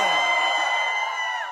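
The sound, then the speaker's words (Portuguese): A crowd shouting and cheering, a loud, sustained burst of overlapping whoops and yells that holds steady before tapering slightly at the end. “Quem gostou, levanta a mão e dá um grito aí!”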